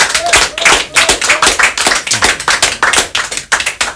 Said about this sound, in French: Et je reconnais la voix de Jean-Marc Tecrini que je vous demande d'applaudir s'il vous plaît.